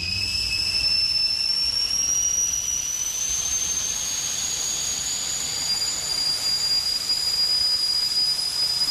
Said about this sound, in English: See how your dog reacts to a kettle whistle.